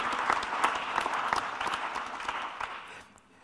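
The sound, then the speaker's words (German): Audience applause for the whole ISO team behind the event, a dense, steady patter of many hands clapping at once, fairly loud throughout before thinning and fading away in the final half second. No voices can be heard. “Und das ist ein Applaus für das gesamte ISO-Team, das hinter dieser Veranstaltung heute steht.”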